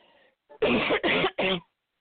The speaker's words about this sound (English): And the coughing that you guys hear is because I closed the windows in my house. I have to have fresh air because I have bronchitis.